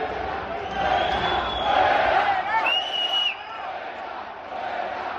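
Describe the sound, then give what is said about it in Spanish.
A tennis crowd shouts and cheers on court during a match with an Argentine player, in a dense, continuous roar, with a few higher individual yells and whistles rising above the noise before the sound eases slightly and swells again. “Pero mira, tenemos los gritos para que ustedes valoren un poco el ambiente que se estaba viviendo en la pista con el argentino.”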